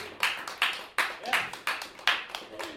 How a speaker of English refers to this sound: So, big applause